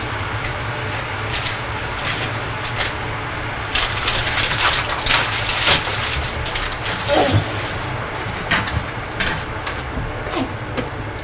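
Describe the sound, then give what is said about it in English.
Continuous crackling and rustling of the paper bag a sausage roll came in, being crumpled and handled as the sausage roll is put back inside, with irregular bursts of louder crinkles over a low steady background hum. “All done, yes, that's the bag that the sausage roll came in. Oh, I see, you're putting the sausage roll back inside, are you?”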